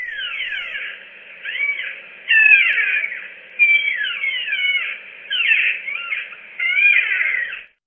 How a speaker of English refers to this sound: Wild as that may sound, it's actually a squeaky back door recorded in Dobbs Ferry, New York